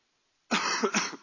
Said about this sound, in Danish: Jeg håber ikke, jeg holder mig til at hoste for meget her.